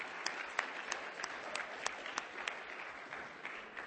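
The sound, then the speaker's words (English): A crowd applauds steadily for several seconds, a dense wash of many hands clapping with a few sharper individual claps standing out, holding a fairly even level throughout. “So would you just give a round of applause to God for what he's doing in your ministry?”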